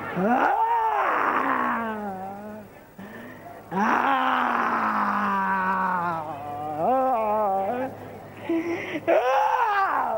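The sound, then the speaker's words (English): A man roars and growls in imitation of a lion, loud and close, with long strained wailing bursts that rise and fall in pitch, separated by a couple of brief pauses. “Right now you're seeing the evil spirit inside of this man manifesting and confess is the spirit of lion, and right now you can see that spirit of lion moving inside this man.”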